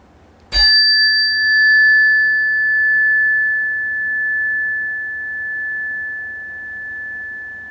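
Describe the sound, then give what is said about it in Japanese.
A single bright bell strike, rung once as a listening test before a breathing meditation, rings out clearly, its high, pure tone sustaining and slowly fading over several seconds, with no talking. “今から僕がこの鐘の音を一回鳴らしますので、まあ、皆さん目をつぶっていただいて、鐘の音が聞こえなくなったなと思ったらこう手を挙げてもらう。”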